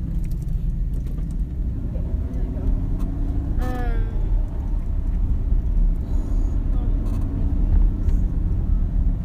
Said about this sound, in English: Sorry, this trash truck was like driving backwards.